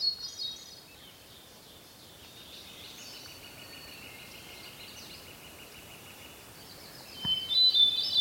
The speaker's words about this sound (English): It's a beautiful, quiet day, and I'm out in an area that's got a lot of conifers. Very beautiful, green place. I'm recording a hermit thrush. It's that exquisite, just exquisite, flute-like song.